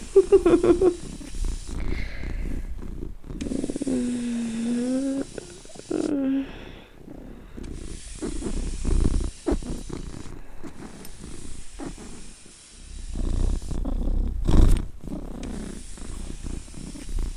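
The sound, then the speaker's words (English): A human voice imitates a cat's purr, a steady low rumble that swells and fades over several long breaths, with a few brief tonal cooing sounds mixed in. “I will let your cooing of my purring slide whilst I am food deprived.”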